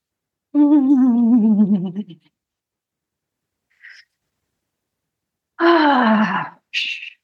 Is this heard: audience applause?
no